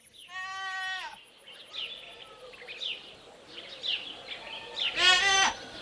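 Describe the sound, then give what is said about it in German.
A sheep bleats twice, a long wavering cry at the start and a louder, harsher one near the end, with faint chirping and rustling in between and no talking. “Moment, ich muss so eine Schaf mal wegschicken.”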